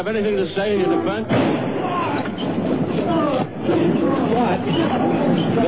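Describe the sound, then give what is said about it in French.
A single sharp pistol shot cracks out early on, cutting through a noisy crowd whose agitated chatter and overlapping voices continue loudly all around; the shot hit Lee Harvey Oswald as police led him toward a car in Dallas at 11:20 on 24 November 1963. “Un coup de feu a été tiré au moment où on l'emmenait vers la voiture.”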